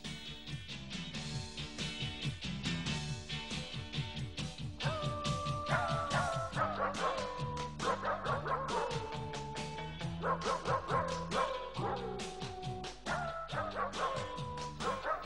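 Dog barks and yips pitched into a bouncy pop melody over a steady musical backing, the barks coming in quick rhythmic runs, loud and close, with no talking.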